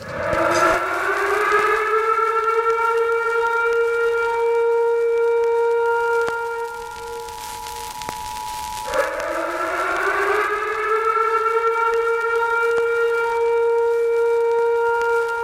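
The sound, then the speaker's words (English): A loud emergency alert siren with a steady, rich harmonic tone rises in pitch, holds, dips briefly around the midpoint, then winds back up and sustains again. No voices are heard. “This is the emergency podcast system. This is not a test.”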